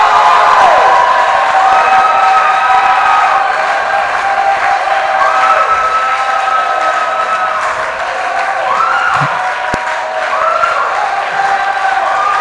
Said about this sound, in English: Let me hear you shout for God. Shout for God, somebody.